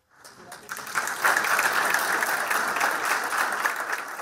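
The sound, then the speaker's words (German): Steady applause from a group as the Brazilian president smiles for a photo, holding up a signed programme for green growth shortly before the climate conference. A dense rapid patter of many hands clapping swells quickly after a faint start and holds at an even, fairly loud level throughout, with no talking. “Lächeln fürs Foto, Applaus.”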